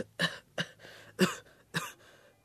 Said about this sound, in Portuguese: Doutor, o meu irmão não consegue parar de tossir. Ontem à noite até ele tossiu sangue.